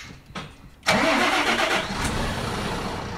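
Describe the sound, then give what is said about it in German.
The engine of an 18-ton beer delivery truck cranks and catches after a brief quiet moment with a faint click, then settles into a loud, steady diesel idle rumbling. “Ein paar Augenblicke nur, dann ist der drahtige Mit-30er im Führerhaus des mächtigen LKW verschwunden. 18 Tonnen. Einsteigen.”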